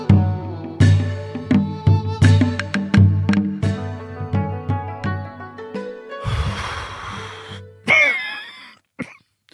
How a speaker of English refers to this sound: You've added a cough to your side. I've got a bit of a cough. Oh, you didn't deliberately. No, I wasn't. Wasn't theatrical. I've got a bit of a cold.